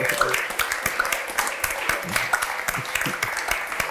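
audience applause

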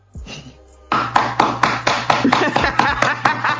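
hand clapping

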